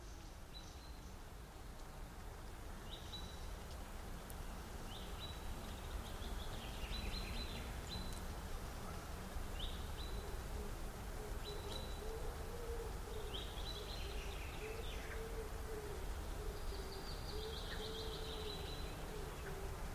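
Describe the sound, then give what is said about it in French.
Birds chirp and sing in a forest, short high calls repeating every second or two over a steady, hushed ambient background, with a faint low hooting tone drifting underneath. “Nous écoutons aujourd'hui une forêt avec ses oiseaux.”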